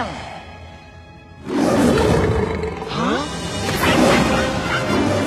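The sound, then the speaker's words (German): A huge, guttural Tyrannosaurus rex roar made from real lion sounds bursts in after a quiet lead-in, loud, with rumbling low growls and rising crashing textures that sustain to the end. “echte Löwensounds kamen hier zum Einsatz. Ihr habt es vermutlich direkt erkannt. Ja, es ist der T-Rex aus Jurassic Park.”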